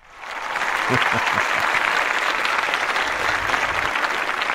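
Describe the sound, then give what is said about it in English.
An audience breaks into applause welcoming a novelist guest to the Writer's Block, a dense, steady wash of clapping that swells quickly and holds at a loud, even level throughout, with a few faint voices mixed in early on. “We gave you the applause.”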